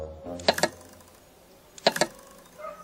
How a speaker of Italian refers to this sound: Ecco, adesso devo aspettare di sentire i tre colpettini.